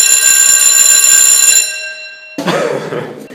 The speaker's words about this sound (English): Thank goodness for the bell.